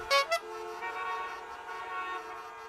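Two quick, bright horn toots, then a longer sustained honk that holds steady before slowly fading; fairly loud, with no voices.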